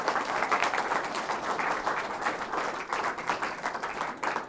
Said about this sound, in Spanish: ¿Cuántos alaban a Dios por ello? Denle un fuerte aplauso al glorioso Espíritu Santo. ¡Aleluya!